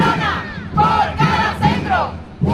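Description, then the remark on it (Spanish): A crowd of midwives from across Andalusia protesting in Seville at the Andalusian Health Service headquarters chants the slogan 'Una matrona por cada centro' in unison, loud rhythmic bursts of many raised voices repeating short phrases in a steady cadence, demanding more midwife staff. “Bueno, es el grito con el que estas matronas enfermeras especialistas denuncian que hace falta ampliar el número de matronas de las 1.300 actuales a al menos 900 más para atender adecuadamente a embarazadas y madres,”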